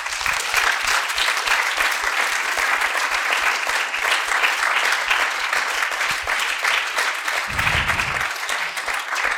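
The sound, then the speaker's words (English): A large group claps hands for Jesus steadily for the full stretch, a dense, loud, continuous patter of applause with no voices standing out above it. “Let's everybody clap our hands for Jesus.”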